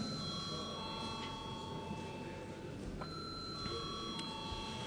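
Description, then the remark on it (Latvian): A parliament chamber bell rings continuously for several seconds before a vote on a bill, a steady electric tone with bright overtones, over a low background murmur with faint indistinct voices. “Lūdzu, zvanu.”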